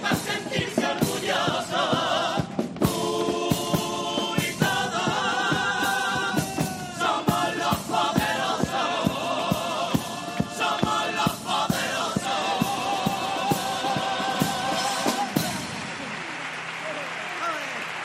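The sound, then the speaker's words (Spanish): A theatre audience in Cádiz, in stalls with some empty seats, gives a carnival comparsa on stage a farewell of loud, sustained applause mixed with cheering and shouted voices. The dense wall of clapping carries on steadily before thinning out toward the end. “Despedida entre aplausos, con un patio de butacas con algunos claritos que no entendemos ante un repertorio como este y una comparsa de primer nivel como la que tenemos sobre el escenario.”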